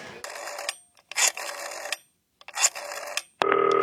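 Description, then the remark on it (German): Three bursts of an outgoing call's ringback tone on a green telephone, each lasting about half a second with short gaps, followed by a brief steady tone at the end; clear, with no talking. “Okay, es klingelt.”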